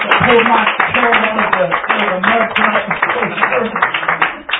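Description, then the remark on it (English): A crowd applauds with steady, dense hand clapping that fills the whole stretch, mixed with voices calling out and a sustained tonal backing underneath, fairly loud. “Give them a hand clap as they come tonight to dismiss us.”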